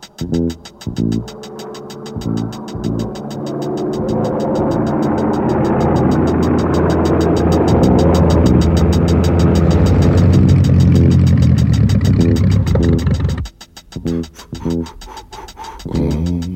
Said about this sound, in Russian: Мотор снова заглох. Самолет мой. Только раз пробит и залатан, что я удивляюсь, как это он вообще летает. Если немного подождать, опять потянет. Но для этого нужен запас высоты, а высоты у меня нет.